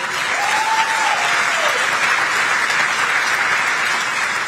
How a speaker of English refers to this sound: That's a lie, but it's an applause line, and he'll wait for them to stop applauding.